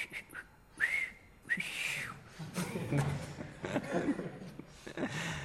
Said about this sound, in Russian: Когда человек счастливый, когда он охвачен счастьем, у него сердце поет, он начинает свистеть.